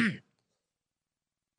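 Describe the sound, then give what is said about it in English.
A single short, rough cough or throat clearing, fairly loud, lasting only a fraction of a second before silence. “This is so bad. I need a cough button.”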